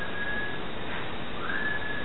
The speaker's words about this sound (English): So there was clearly something whistling in the room.